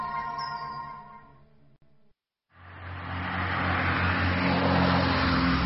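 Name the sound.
car driving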